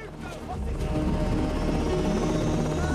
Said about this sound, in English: With the cargo of children waving goodbye, the choppers slowly take to the sky.